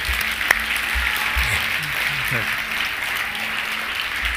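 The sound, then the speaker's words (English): A crowd applauds steadily throughout for the people who said yes and raised their hands, a dense wash of clapping that holds an even loudness, with a few low murmured voices faintly beneath it. “That said, everybody else can raise your eyes and give a round of applause for those who said yes, were brave.”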